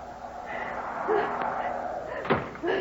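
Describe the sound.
A couple of sharp, separate knocks on the front door of a ranch house in snow, fairly loud, spaced about a second apart, with murmuring voices and background noise underneath.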